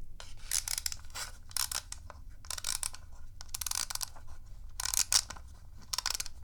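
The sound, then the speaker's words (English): A toy boat's little wind-up outboard clockwork motor being wound: a series of about eight short, raspy ratcheting bursts in a fairly steady rhythm, with no voices. “This boat has a little wind-up outboard motor.”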